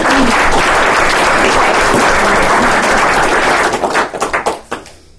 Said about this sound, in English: So can I get you to give her a big round of applause?